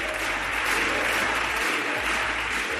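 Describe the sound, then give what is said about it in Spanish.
A large crowd of parents, teachers and students at the doors of the Congress roars steadily, chanting 'libertad' against a law limiting families' choice in education, a dense wash of clapping and shouting voices that blurs the chanted words, loud and unbroken for the whole few seconds. “Libertad, libertad, libertad ha sido la palabra más repetida dentro del Congreso, como acabas de escuchar, y también fuera en la calle.”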